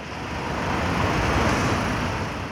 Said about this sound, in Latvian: Stāvlaukumā piebrauc auto, kuru vada kāds vīrietis.